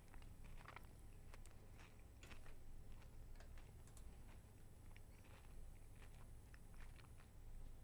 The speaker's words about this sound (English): I'm sorry, I just... I got really entranced by the sound of you chewing.